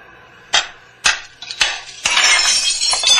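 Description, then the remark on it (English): A rock strikes a factory window pane with three sharp blows to break in, and then the glass shatters into a loud, sustained crash and tinkle of falling shards. No one speaks. “You going to crawl through that hole in the window?”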